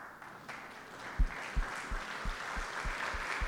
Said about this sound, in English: Okay, your children, your sons, stand and bless her. May I request all the sons in the house, can you please stand up and applause to God for the life of your mom, lahat ng anak na lalaki.